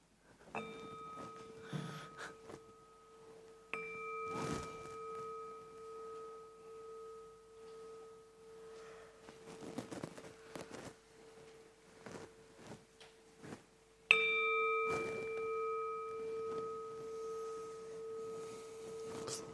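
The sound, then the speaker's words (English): A gong is struck three times to end a meditation session, each hit followed by a long, sustained metallic ring that hums steadily. The final strike is the loudest and rings out to the end, with no talking. “kind of hit the gong, and then we can come out of our meditations and go to bed.”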